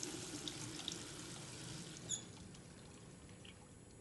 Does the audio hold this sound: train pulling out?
no